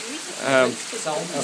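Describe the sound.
Heavy rain pours as a torrent down the stairs at the bottom of a tower, forming a little waterfall, in a dense, steady hiss that never lets up, with brief bursts of voices rising over the wash of water.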